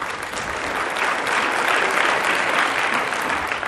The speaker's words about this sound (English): see that? Adult clapping? They put some goddamn wrist into it, you know? So, some old roughneck kids up here. You know you can clap better than that.